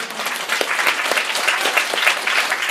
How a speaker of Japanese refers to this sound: Thank you for clapping for God for me, because I'm so grateful to God, I don't know how to thank him enough.